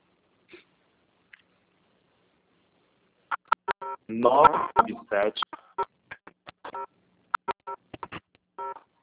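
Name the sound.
phone keypad dialing tones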